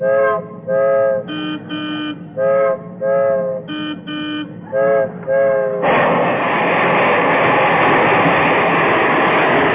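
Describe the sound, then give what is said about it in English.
A train nears a railroad crossing, sounding a run of short, rhythmic horn blasts, then a loud, steady rushing roar as it passes by. No voices are heard. “I'm coming to a railroad crossing. Slow down. I hear the train coming.”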